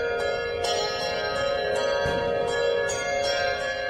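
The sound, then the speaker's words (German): A Zimbelstern organ register, a wheel of small bells tuned to a particular key, tinkles in quick, steady repeated strikes, ringing brightly over a sustained, droning organ chord that holds throughout. “Der Zimbelstern als Register war geboren.”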